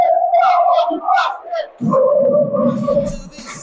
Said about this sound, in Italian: Intanto possiamo dire che sostanzialmente i tifosi del Napoli Basket non si fermano neanche nell'intervallo.